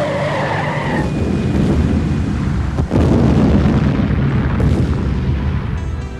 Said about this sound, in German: Die Trucks krachten seitlich aufeinander, in voller Fahrt, direkt vor meinem Jeep. Ihre beiden Tanks explodierten in einem einzigen gewaltigen Feuerball.